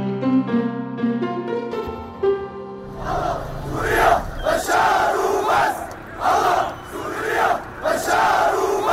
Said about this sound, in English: After 4 years of siege and bombing, buses evacuated about 8,000 of the remaining residents of the Syrian town of Daraya, a suburb of Damascus, to the cheers of pro-government fighters that you can hear there, took place on Friday.